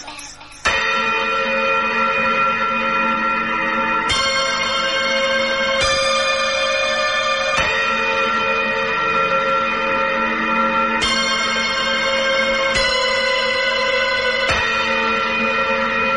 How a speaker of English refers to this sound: and nothing was ever heard from him again, except for the sound of tubular bells.